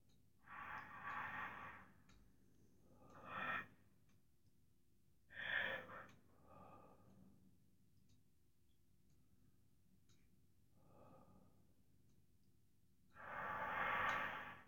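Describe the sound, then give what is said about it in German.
Slow, deep breaths drawn in and let out several times, soft, with quiet pauses between each long airy inhale and exhale and no talking. “Das Atemgeräusch, das du eventuell hörst, erinnert dich immer bloß, ja, jetzt tief atmen.”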